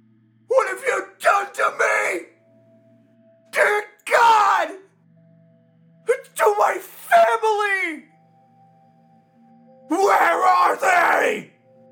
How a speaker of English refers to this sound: Anger welling up inside me. I tremble with rage as I scream out.